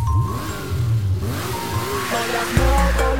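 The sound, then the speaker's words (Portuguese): A sport motorcycle engine revs up and down several times, its whining pitch climbing and dropping in quick bursts, loud, with a heavy low thump near the end. “R1CBR na madrugada é o barulho”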